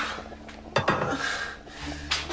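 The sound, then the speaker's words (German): A cooking pot lid is lifted off with a short metallic clink, followed by soft scraping and a faint hiss over a steady low hum. “Till hebt den Deckel vom Topf.”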